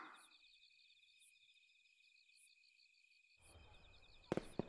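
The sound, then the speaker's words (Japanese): Steady cricket chirping fills a quiet night, then a low rumble rises and two or three sharp fireworks bursts crack out near the end, fairly loud against the insects. “あ、来た！たーまやーって言っちゃった。”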